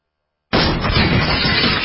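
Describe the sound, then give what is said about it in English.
A burglar kicking in the door of a dark house: after a moment of silence, a sudden loud crash bursts out and continues as a dense, sustained rumble of splintering and clattering until the end. “That's what it sounds like when a burglar kicks in the door of a dark house that looks like no one is home.”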